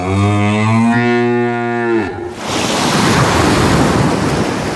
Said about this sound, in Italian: Una terza balena, che passava per caso di lì, gridò alle altre due.